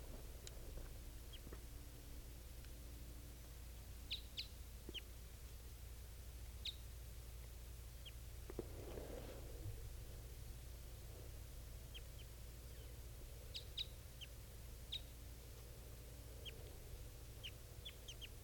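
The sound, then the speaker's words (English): Short, high chirping calls from two female birds come in scattered bursts over a steady low background hum, fairly soft, with no one talking. “Both of those birds are calling that.”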